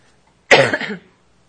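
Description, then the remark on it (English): A single sharp, harsh cough from an auctioneer during bidding at an auction, lasting about half a second, with quiet before and after and no talking. “I'm sorry, I coughed about that time.”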